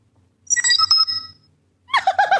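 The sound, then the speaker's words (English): A bright, futuristic electronic doorbell chime, the Star Trek: The Next Generation doorbell sound, rings out as a phone text tone: a shimmering, layered tone sequence, a brief pause, then a second warbling burst of pitched tones, loud. “That's the Star Trek Next Generation doorbell.”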